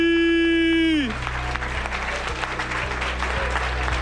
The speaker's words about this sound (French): Il est là, messieurs, dames, un tonnerre d'applaudissements, tout le monde debout, tout le monde debout, monsieur George Eddy.